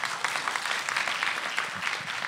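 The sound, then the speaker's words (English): Audience applause fills the whole moment, a steady dense patter of many hands clapping at an even, moderately loud level with no voices standing out. “Round of applause.”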